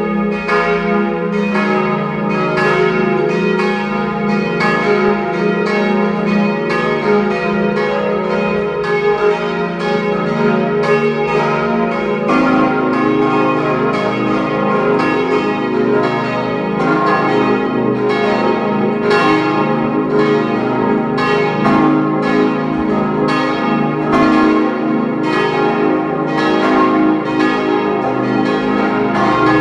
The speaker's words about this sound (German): Es ist 12 Uhr. Sie hören die Glocken der Pfarrkirche Kirchdorf an der Krems in Oberösterreich.